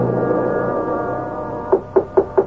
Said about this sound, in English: Is that you, Maurice? Who else would be knocking on your door at this hour?